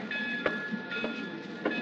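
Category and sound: vehicle, train running on rails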